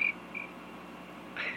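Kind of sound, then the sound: insect, cricket chirping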